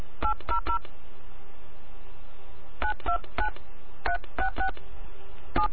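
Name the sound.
touch-tone telephone dialing tones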